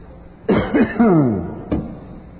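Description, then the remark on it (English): A person gives sympathy coughs on live TV: a harsh, rasping cough that trails into a strained, voiced wheeze, then one short, sharp cough a moment later. “That sympathy coughs.”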